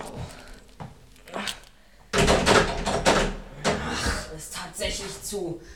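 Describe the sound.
Someone locked inside a church rattles and tugs at the locked door, a few quiet knocks followed by louder, repeated bangs and jolts of the handle and frame, with low voices mixed in.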